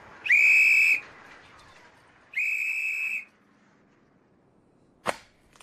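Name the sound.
police whistle being blown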